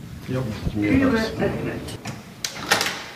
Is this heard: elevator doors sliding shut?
yes